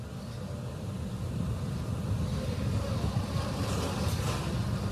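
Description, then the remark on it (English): A deep, continuous roar of nine Merlin 1D rocket engines during a launch, powering back up to full power after the throttle bucket as the rocket passes Mach 1 and goes supersonic, rumbles steadily throughout, heavy in the low end with a rough, crackling texture and no voices over it. “The 9 Merlin 1D engines Mach going one. Back to full power.”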